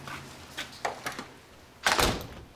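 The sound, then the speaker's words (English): A door opens with a few soft clicks and rattles of the latch, followed by a louder sliding, rushing swing of the door as a man lets a girl out, with no talking. “He places Juno's bag over her shoulder and opens the door to let her out.”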